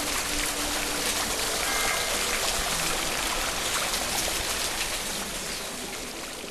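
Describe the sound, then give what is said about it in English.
Steady, dense rush of water pouring down from a shower, a continuous hiss filling the whole clip at constant loudness, easing slightly near the end. No voices. “You feel cleansed by the refreshing torrent as the stresses and strains of daily life are gently washed from your body.”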